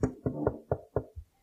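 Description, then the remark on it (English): A series of six firm knocks on a wooden door, delivered in a quick, slightly uneven rhythm, clear with no voices present. “You ever have a knock at the door?”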